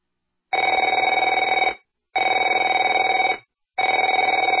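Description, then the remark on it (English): A telephone rings three times in a steady pattern, each loud, bright trilling burst lasting just over a second with short pauses between, and no voices present. “Afraid to answer it?”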